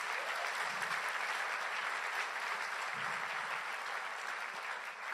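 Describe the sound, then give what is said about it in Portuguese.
A church audience gives a round of applause to the Lord, a steady, dense wash of many hands clapping at an even level throughout, with a faint low murmur of voices underneath. “Glória a Deus, uma salva de palmas ao Senhor.”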